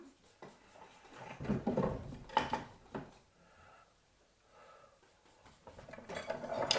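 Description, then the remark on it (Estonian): Metal cutlery clatters and jingles as it is shuffled around inside a drawer, with bursts of scraping and clinking that pause briefly before a louder jangle at the end. “ma tahan veel nüüd siin sahtlis .”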